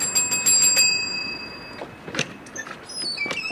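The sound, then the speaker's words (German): A bell rings in a staged scene from Kafka's The Trial: a quick run of bright, high metallic strikes, its tone lingering for a moment before cutting off, followed by a few softer clacks and rustling noises. “Sie haben geläutet.”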